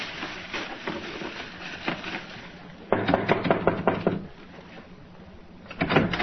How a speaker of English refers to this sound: As if you were waiting for someone to knock at your door.